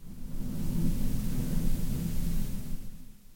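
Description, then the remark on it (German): A long, deep roll of thunder from a thunderstorm with lightning rumbles steadily for a few seconds, heavy low-end energy swelling and then slowly fading, with a faint hiss of background noise and no voices. “Jetzt donnert es und blitzt es hier und gewittert.”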